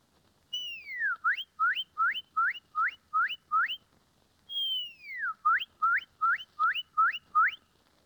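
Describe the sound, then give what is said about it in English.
A woman whistles an imitation of a cardinal's (red bird's) song: a long descending slur followed by a rapid series of rising upslurred notes, repeated twice, loud with no talking. “The red bird.”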